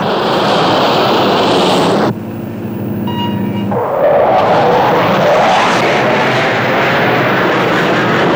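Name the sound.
airplane engine in flight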